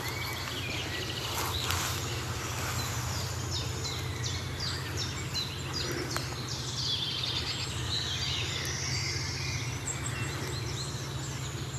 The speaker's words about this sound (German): Während hinten ganz entfernt der Waldlaubsänger zu hören ist, die Meisen schimpfen. Buchfink hinter uns ist entspannt, also müssen die vorne rechts sein. Ich schätze mal, dass die Meisen die sehen.